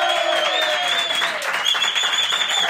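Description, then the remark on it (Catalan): An audience applauds the Polifònica de Porreig choir, which performs live on a special night, with dense, steady clapping that holds at an even, fairly loud level for about three seconds. No one speaks over it. “Fort aplaudiment per ells!”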